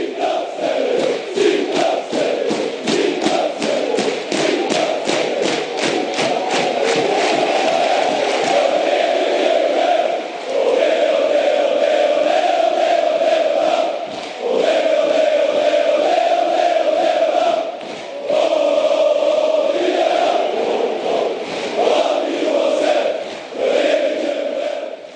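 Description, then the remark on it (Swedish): A massive football crowd sings together in the stadium stands, a loud sustained chant with rhythmic claps or stomps driving the first half, voices swelling in unison with brief dips between phrases. “Alltså på läktarna. Alla sjunger.”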